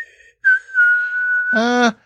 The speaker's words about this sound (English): It's creepy that Brandon got the Savior's whistle just right after killing the mom and the kid.